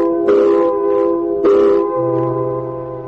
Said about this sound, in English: Came quitting time, there was a whistle. Loud enough to buckle your knees and send waves up your spine.